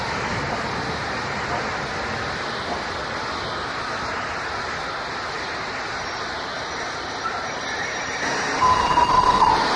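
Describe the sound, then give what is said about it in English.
A steam passenger train from Broughty Ferry to Edinburgh departs Cooper Station at 6:15 p.m. on 24 November 1966, passing under a road overbridge at night. A steady, dense three-cylinder chuffing roar grows slightly louder toward the end, where a short, shrill whistle cuts through. No one speaks. “After a shrill blast and a whistle, it departs under the road overbridge, its distinctive three-cylinder exhaust beats echoing into the night.”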